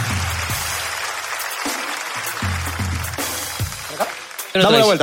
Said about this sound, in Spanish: Un fuerte aplauso a mi amigo, carajo.